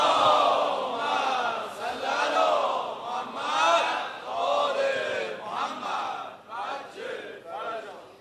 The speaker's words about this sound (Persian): اول دعاش انشاءالله فرج امام زمان باشه، صلوات بلند بفرست.